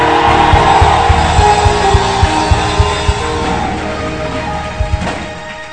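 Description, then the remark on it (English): A dense, loud roar of many voices screaming and shouting together at a preacher's call during a religious service fills the space without pause, with a steady thumping beat pulsing underneath for the first few seconds. “Scream!”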